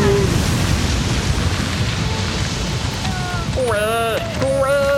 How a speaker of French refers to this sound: Cette dernière explosion l'a achevée!